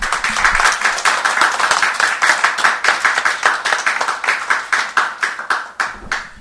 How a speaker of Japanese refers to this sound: それでは、ご臨在の主に感謝の拍手をしてまいりましょう。ハレルヤ。